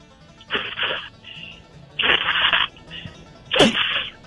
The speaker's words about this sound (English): What the hell what is that? What is that? Are you shoveling? Blow my nose, you idiot.